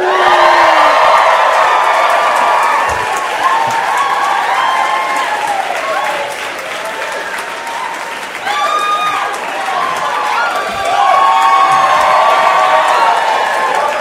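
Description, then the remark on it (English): A live audience at the Bell House in Brooklyn cheers, whoops and claps steadily for about fourteen seconds, loud, with many voices shouting at once and the roar swelling again near the end. “Hey, I am all about cheering for a bar.”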